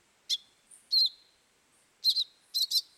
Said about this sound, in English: The euphonia, meanwhile, sits tight, maybe shouting out a few more bogus alarms while others do the dirty work.